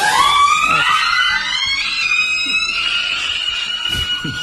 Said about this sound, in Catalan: Hi veiem unes noies en una cuina i una d'elles té a la mà una bossa que sembla contenir alguna cosa. De cop i volta, un crit a càmera lenta.